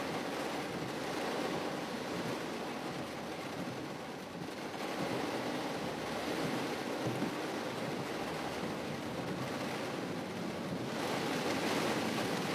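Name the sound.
heavy rain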